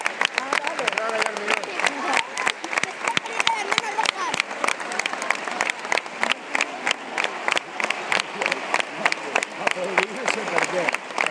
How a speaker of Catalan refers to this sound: Aplaudir pel temps que ens han deixat